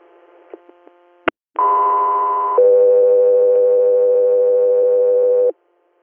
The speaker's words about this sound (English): Discovery Air, stand by for tones.